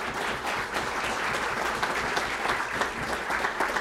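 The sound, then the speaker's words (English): Steady audience applause, a dense wash of many hands clapping at an even, sustained level for several seconds with no voices standing out, given as another round of applause for Lori for doing a great job. “I know you acknowledged her earlier, but let's give her another round of applause for doing such a great job.”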